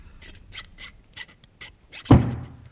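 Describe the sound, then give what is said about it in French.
A metal file rasps in quick, rhythmic strokes, about seven hissing scrapes, as the butcher's son files at night in front of the cash drawer of his father's shop, before a sudden loud bang cuts in and rings out with a deep, fading rumble. “qu'est-ce que tu fais avec ta lime devant la caisse?”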